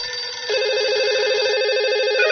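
A telephone line ringing before a phone call to someone in Paraćin connects: a steady electronic warbling ring tone that starts abruptly and continues unbroken at a moderate level, with no voices.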